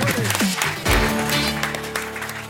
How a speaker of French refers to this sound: Merci d'applaudir comme il se doit, Patrick Braoudé et Arthur Juniau.